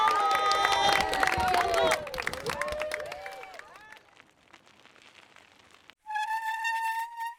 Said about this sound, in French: Sous les applaudissements du personnel et des élèves.